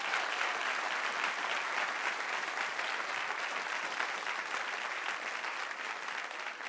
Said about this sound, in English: Give the Lord a hand clap and praise him.